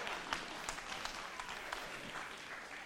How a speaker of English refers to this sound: Why don't you stand to your feet this morning? Get the biggest round of applause. Yeah!